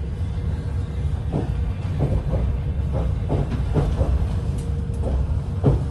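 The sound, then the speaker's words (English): A train rumbles along steadily as it rolls into Kyiv in the morning sun after an overnight journey. Its low continuous drone is punctuated by a loose series of clacks and metallic knocks from the wheels over the rails, with no voices. “After a restful night on the train, as the morning sun shone, we rolled into Kyiv.”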